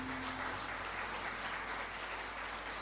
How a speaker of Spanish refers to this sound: Bueno, un aplauso también para mis amigos que me acompañan desde hace mucho tiempo